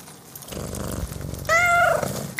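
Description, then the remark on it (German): A cat purrs with a steady, low rumbling rhythm, then lets out a short, clear meow near the end while the purring carries on underneath. “der Katze, ihrer einzig verbliebenen Begleiterin”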